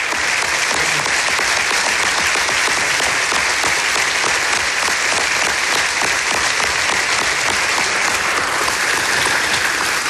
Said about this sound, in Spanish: Esta es la ovación que recibió Ousmane Oumar tras su ponencia en el IS Business School